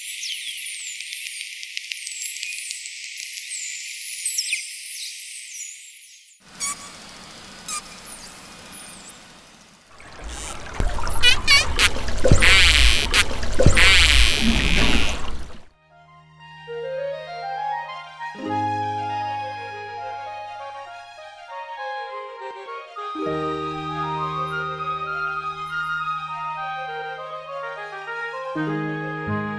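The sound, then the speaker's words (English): A sequence of sounds from an Atlantic white-sided dolphin, a bottlenose dolphin and a Risso's dolphin (Grampus): thin high whistles, then crackling click trains and a loud buzzing burst, ending with long rising and falling harmonic whistles and chirps. “You heard sounds from the Atlantic white-sided dolphin, bottlenose dolphin, and Risso's dolphin, also known as Grampus.”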